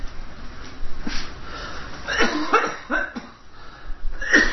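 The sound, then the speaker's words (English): A person coughs repeatedly in a harsh fit: a cluster of rough bursts in quick succession, broken by a couple of short gasps, with no talking. “Can I have a cough drop?”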